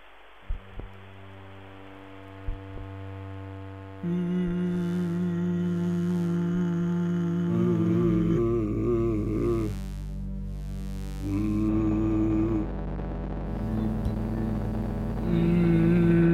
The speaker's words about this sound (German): Mein erstes Feature war ein Stück über den Brummton, einen tieffrequenten Ton, den nur wenige Menschen hören können. Ich kapiere das auch nicht, warum Sie das nicht hören. Das ist jetzt so laut.